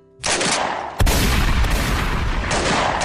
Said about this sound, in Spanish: Con todo y eso, aquella fría noche de noviembre, mientras Aureliano y su hijo llevaban a la yegua grande a las caballerizas, el sonido de las balas rompió el silencio en el que se encontraba sumido el rancho.